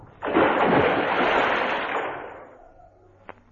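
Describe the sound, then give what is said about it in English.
A loud splash as a man falls into water, the churning noise surging at once and then fading away over a couple of seconds, with a faint click just after. “He's fallen in the water.”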